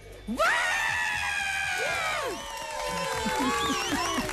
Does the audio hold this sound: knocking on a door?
no